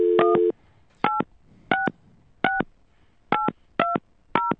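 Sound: telephone keypad dialing tones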